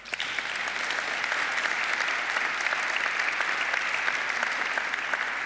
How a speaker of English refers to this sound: You had also a very tense and dense week this week with the hearings of the new commissioners at the European Parliament, and it's great also, and this is your round of applause.